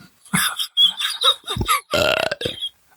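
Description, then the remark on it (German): A string of loud burps rumbles out in quick succession over about three seconds, with one long, drawn-out belch near the end. “Ja, nee, jedes Mal, wenn du Eiswürfel kaufst, rülpse ich jetzt.”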